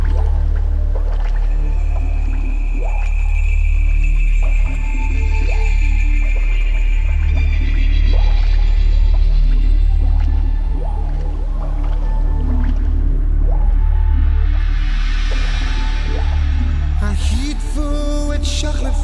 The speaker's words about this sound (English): And while they pray, the frogs will chant in the darkness.